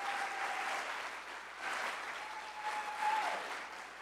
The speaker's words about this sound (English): Please give a warm round of applause for John Greenberg.